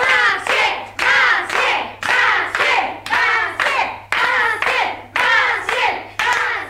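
A crowd at a school gives a loud, steady ovation as a pupil comes to the front, the clapping swelling in regular rhythmic surges roughly every second, with no clear talking over it.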